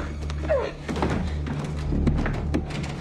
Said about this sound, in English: Barreling in, he closes the door and places a chair against the doorknob.